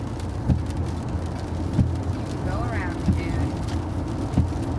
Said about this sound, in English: Look at that, it's just now starting to rain. Now it's starting to pour down rain, and we didn't have a drop of rain.